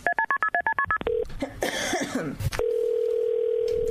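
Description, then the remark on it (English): A quick run of about nine touch-tone dialing beeps as an outgoing phone call is placed, a brief shuffle and throat-like noise, then a steady, unbroken ringing tone that continues to the end. No one speaks. “Here at Her Society, we call a lot of people.”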